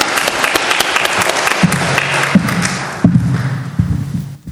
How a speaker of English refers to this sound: Let's clap for them as we thank them.